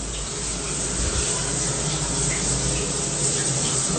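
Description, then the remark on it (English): A shower runs steadily while a person sits in it reading a book, a dense, even hiss of falling water with a low rumble underneath, fairly loud, continuing without a break. “there's Matt sitting nude in the shower. So with the shower on.”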